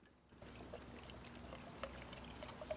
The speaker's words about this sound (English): Taking off the lid, he pours more vodka into the water bottle until it's full.